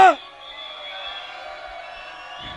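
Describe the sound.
A crowd in a room cheers and shouts for a performer who has built up the dance floor. A sharp burst of voices opens it, then the noise settles into a steady, even roar of applause that holds to the end.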